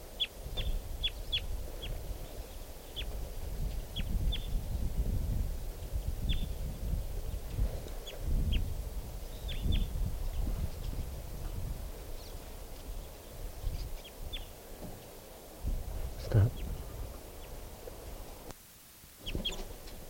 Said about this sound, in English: is a crossbill. Three crossbills there.